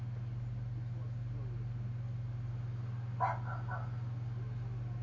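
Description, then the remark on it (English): A brief recorded dog bark, a quick double woof, played by an Alexa smart speaker in response to the spoken command "Alexa, woof", sounds midway through over a constant low electrical hum, fairly soft and slightly thin as if from a small speaker. “I the dogs were being a pain in the ass, so I just randomly said to it, Alexa, woof,”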